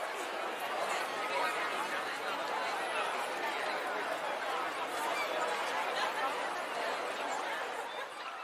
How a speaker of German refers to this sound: Sind da noch die Menschen, die ich aus der Ferne hören kann?